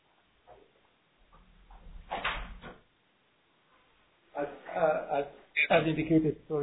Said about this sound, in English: I had to open a door.